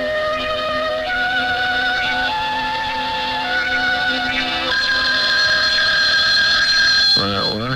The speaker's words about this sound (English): Where is it? It's not the alarm this time, darling. It's the phone dummy.